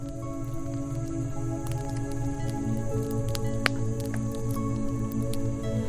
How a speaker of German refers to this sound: Du hörst das Knistern des Feuers und lässt die Musik durch deinen Körper fließen.